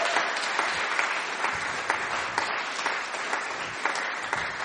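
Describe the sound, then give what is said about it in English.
Steady applause from an audience clapping for Christian Aid and its social justice work, a dense wash of many hands clapping at once with scattered sharper claps poking out, sustained evenly throughout without any talking. “Let's just give them a clap again, because they're just so incredible.”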